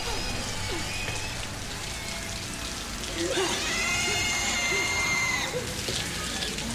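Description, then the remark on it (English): A sprinkler system is switched on and water sprays down steadily, a dense, continuous hiss like heavy rain, with a brief higher-pitched tonal whine rising over it midway before fading. “He turns on the sprinkler system.”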